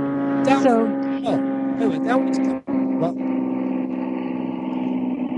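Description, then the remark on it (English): A steady, humming drone of airplanes passing overhead near an airport runs through the whole recording, loud and constant, while people talk over it. “Sorry about the planes.”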